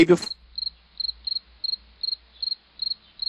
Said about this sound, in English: Crickets.